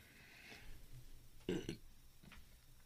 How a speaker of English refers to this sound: Why are you shaking your head at me, man? Just let me burp. No. Just let me burp, dude. How are you mid-sentence and need to burp so frequently?